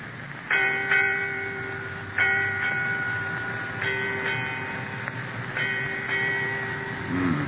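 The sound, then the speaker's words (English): A ship's bell rings eight strokes in four evenly spaced pairs, each clear metallic clang sustaining and overlapping the next, heard alone against a faint background hum. “Eight bells, Captain. Aye. Eight bells, mate.”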